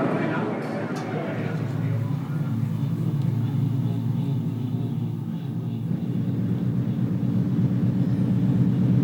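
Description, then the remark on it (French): An ocean liner's engine drones in a steady low rumble, heard from the ship's rear deck at sunset in mild weather, with a constant hiss of sea water rushing beneath it. The loudness stays even throughout, with no distinct breaks. “Il y a le bruit de la mer et le bruit du paquebot.”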